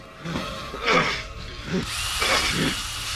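A cordless power drill with a 20-centimeter bit whirs in several short, revving bursts, with a steady high-pitched buzz running under the later part; moderately loud, with no speech.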